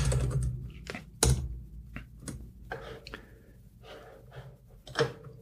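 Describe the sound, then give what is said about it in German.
Clicking of a computer keyboard as someone types to google something, with a run of irregular keystrokes and a few louder taps, heard on its own without any talking. “Tastaturgeräusch, live, authentisch.”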